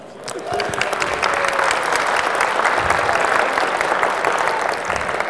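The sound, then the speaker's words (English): A crowd claps steadily for about five seconds for the 6 o'clock table after its one-minute task, a dense, even wash of many hands with no voices rising above it, holding at a constant loudness until it thins slightly at the end. “Okay, good. Let's hear it for 6 o'clock.”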